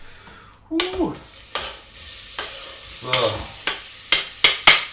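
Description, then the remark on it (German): Chopped onions sizzle in hot butter with a steady crackling hiss, broken by several sharp scraping and stirring clicks that grow louder toward the end; a voice briefly speaks once. “Also dann ab damit in die heiße Butter.”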